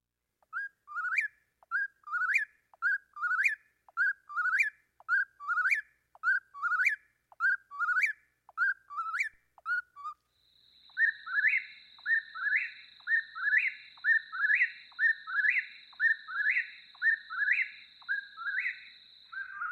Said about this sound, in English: I mean, they say whippoorwill. They say their name.